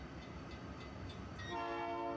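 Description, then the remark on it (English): A freight train rumbles steadily past, and partway through its horn begins blaring a sustained, loud tone over the low rolling noise of the cars. “Freight train.”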